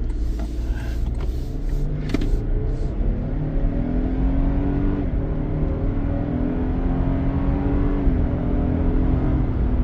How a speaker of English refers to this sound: And what that is the audio system pipes what would traditionally be a noise you hear from an engine through the audio system. We put a pretty high caliper system in this car, and it's kind of given us a little bit of issue with this fake engine noise